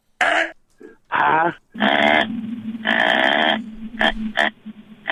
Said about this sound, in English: They actually have what it sounds like when the deer are in the rut.